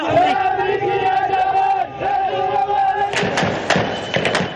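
A large crowd chants in unison, sustained loud voices in a rising and falling rhythm, then breaks into rough shouting and cheering with sharp bursts of noise.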